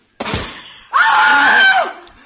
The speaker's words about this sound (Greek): Τρύπησε το μπαλόνι.